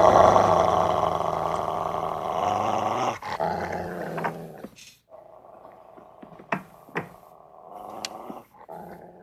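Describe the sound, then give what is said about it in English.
A dog growls low and loud for several seconds, then the rumble drops off into a quieter, steady hum broken by a few sharp snaps and short bursts of sound. “This growl scared me.”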